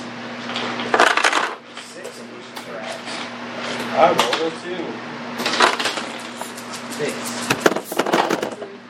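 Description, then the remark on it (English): Dice clatter and tumble across a hard tabletop in several short bursts as players roll for surprise in a game, over a steady low electrical hum with faint murmuring voices in the background. “Most people, unless you have alertness or are a ranger, you are surprised on a 1 or a 2 on the dice.”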